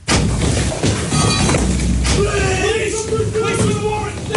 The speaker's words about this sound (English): The sound of a door being taken off its hinges as a raid by Greater Manchester Police and a crackdown on serious organised crime.